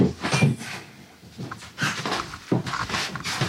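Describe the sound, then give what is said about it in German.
A house door is opened and shut, with a few hard knocks and bumps interspersed with scraping and rattling over a few seconds, no voices; the doors have shifted and no longer close properly. “Können wir uns das mal anschauen mit den Türen, die sich verschoben haben?”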